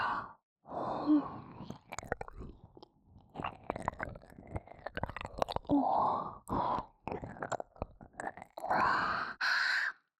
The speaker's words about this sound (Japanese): 息遣いも荒くなってきました。